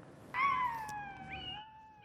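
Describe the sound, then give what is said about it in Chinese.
A woman's pet dog lets out a single long, wolf-like howl lasting nearly two seconds, played back on her smartphone from a sound-wave tattoo. The high tone starts abruptly, slides gradually lower, then lifts slightly at the end over faint background hiss. “这不仅仅是这位女士的爱犬像狼一般的嚎叫，还是她在自己的智能手机上听到的波形刺青。”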